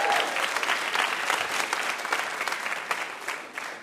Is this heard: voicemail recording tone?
no